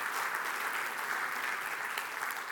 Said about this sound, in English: We had tripled the business sponsorship this year. And man, would y'all please clap for that, because that is so huge.